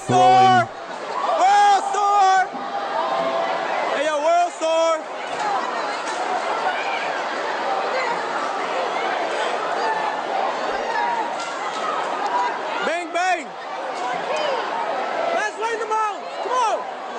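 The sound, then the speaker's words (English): A dense crowd of shoppers roars continuously, with many overlapping voices and scattered excited shouts and whoops rising above the din, as people burst through a retail store's panel door held by clerks and rush through a mall after goods. “people just start pouring through the doors, running after stuff.”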